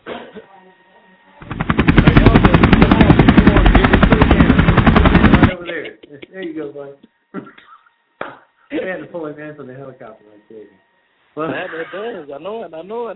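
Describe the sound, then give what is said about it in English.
A helicopter roars loud for about four seconds, its rapid rotor chop pulsing steadily, then cuts off as people start talking. “We had to pull him in from the helicopter right there.”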